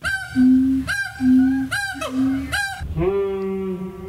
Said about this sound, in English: I think we all truly deserve to be able to experience this glorious, glorious moment. That is more monkey calls.